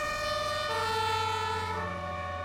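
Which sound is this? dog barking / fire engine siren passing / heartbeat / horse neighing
fire engine siren passing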